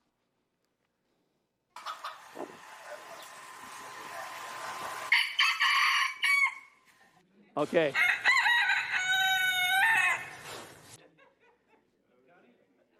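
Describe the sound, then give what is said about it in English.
A rooster crows loudly, two long drawn-out cock-a-doodle-doo calls one after the other, followed by a person briefly saying a word. “maybe we need that same rooster to crow and to warn us as well”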